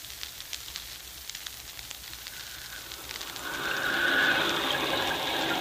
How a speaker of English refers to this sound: Look at that rain, Crawley. It's just what you ordered, sir. And down there in the valley, the lights glow cheerfully through the rain.